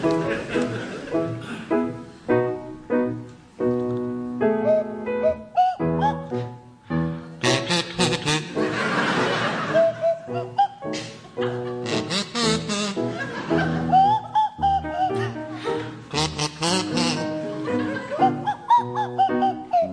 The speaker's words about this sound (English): Tim and Miles, you can start, and I'd like you to provide us with a rendition of the Dance of the Hours to feature Miles Jupp on the kazoo and Tim Brooke Taylor on the Swanee whistle.